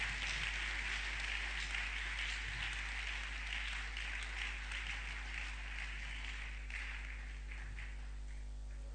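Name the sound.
audience clapping in praise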